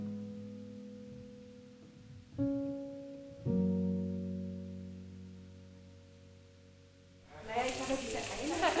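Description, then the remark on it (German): Steady low humming tones and soft background murmur give way to a loud burst of crackling sizzle as Korean barbecue meat hits a hot grill in the middle of a restaurant table in Berlin near the end, the meat turned with tongs. “Im Restaurant in Berlin brutzelt inzwischen das koreanische Barbecue in der Mitte des Tisches. Mit einer Zange wird das Fleisch gewendet.”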